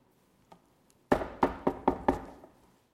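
Five firm knocks on a wooden door in quick, even succession, loud, with a faint tap just before them and no voices.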